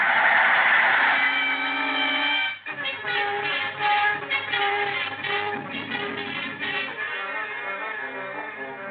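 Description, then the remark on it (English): A train rushes by in fog with its whistle shrieking, a loud sustained blast at first, then pulsing harmonic tones over a rhythmic rumble as it passes, with no voices. “Here comes the train now.”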